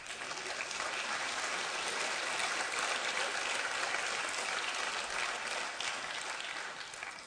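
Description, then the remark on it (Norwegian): Sustained applause from an audience fills the whole stretch, a dense, steady wash of many hands clapping at an even loudness before tapering slightly at the end. “Han skal få en applaus.”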